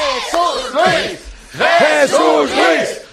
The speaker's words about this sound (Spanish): Gracias por estos aplausos y jaleos que tanto me estimulan.